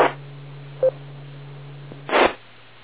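A single short phone keypad beep sounds once as a Comet part number is entered into a phone, over a steady low hum, followed later by a brief rough burst of noise; no one speaks.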